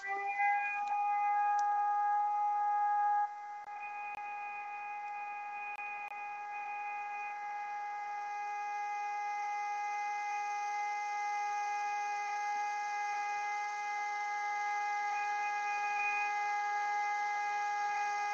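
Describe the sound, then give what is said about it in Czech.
A civil defense siren blares a steady, unwavering tone for the whole stretch, loud and constant with a slight drop in level early on, with no voices. “Já bych k tomu doplnil na pozadí té sirény konstatování jednoho starosty nejmenovaného obvodu městského”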